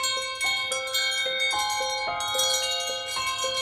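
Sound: wind chimes tinkling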